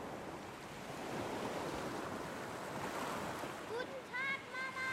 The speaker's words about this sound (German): Der graue Himmel öffnete sich und die Sonne schien silbern aufs Wasser. Es war mäuschenstill. Nur das Meer.